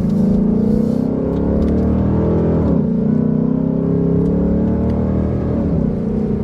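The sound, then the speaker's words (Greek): A car engine rumbles at low revs, a steady deep harmonic drone that rises and dips slightly, loud with no talking. “Και γράφεις, ακόμα και με χαμηλές τροφές και κατεβασμένα παράθυρα και να ακούς και τον ήχο του κινητήρα.”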